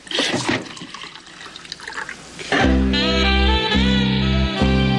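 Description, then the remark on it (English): Liquid splashes and gurgles as it's poured into a glass, then settles into a steady stream with a rising, ringing tone as the glass fills up, fairly loud. “Maybe you should pour.”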